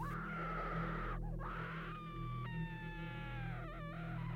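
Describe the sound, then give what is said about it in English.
Eerie, drawn-out screams of pain rise and bend in pitch, several wailing cries overlapping and sliding downward, sounding anguished, all over a steady low droning hum that never stops. “Then came the screams.”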